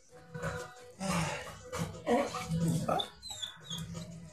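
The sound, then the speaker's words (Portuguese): A dog trying to bark, letting out a series of short, strained yelps and whiny half-barks that rise and fall in pitch over a low steady hum. “O cachorro querendo um latir.”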